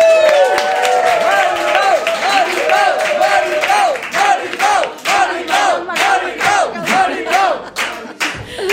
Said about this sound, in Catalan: Rebem amb un fort aplaudiment a Mari Pau Huguet.